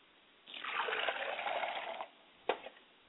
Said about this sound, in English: I pour libation to the ground, because the words that we're about to speak today, may they fall on fertile soil, may they take root, and may someone come and water the fertile ground, and may God give the increase.